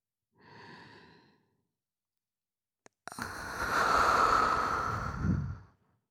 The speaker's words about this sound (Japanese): ねっとりと絡みつくような熱い吐息、お好きでしたよね。